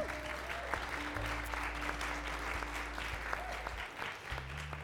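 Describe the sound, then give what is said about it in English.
A crowd applauds steadily, a dense wash of many hands clapping at an even volume for several seconds, with a low hum underneath. “So yeah, let's give you guys another round of applause.”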